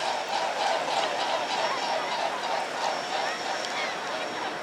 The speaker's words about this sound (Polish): Piękne takie fanfary, można powiedzieć, które wydają lotki, czyli pióra w skrzydłach, kiedy łabędź nimi porusza. No, pięknie się łabędź wstrzelił.